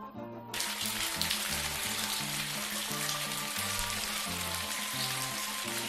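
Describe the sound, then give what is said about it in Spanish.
Steady, dense rainfall hisses loudly after a brief start, continuing evenly throughout while soft low musical notes play underneath. “Bueno, eso si tienes suerte donde tú estás y hoy llueve.”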